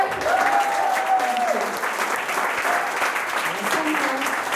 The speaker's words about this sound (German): Ja, danke, dass ihr zugehört habt. Ein Applaus für